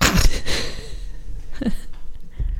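A stifled yawn, heard as a few breathy gasps and a strained inhale-exhale through a half-closed mouth, with no talking.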